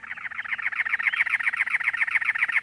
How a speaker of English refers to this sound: In late April, in the Arizona desert, it's already over 90 degrees by 11 a.m., and the mercury is still rising. A cactus wren sings, perched atop a many-lobed cactus.